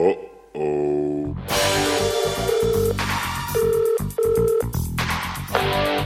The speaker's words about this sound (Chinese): 您电话的客户正在使用呼叫保持服务，请不要挂机。